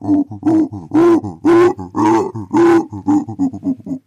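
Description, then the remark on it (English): A human voice imitates a howler monkey's call: a rhythmic series of deep, breathy grunting whoops, rising and falling in loud bursts with shorter grunts between, about a dozen pulses over four seconds. “howler monkeys have developed this trick to expand it.”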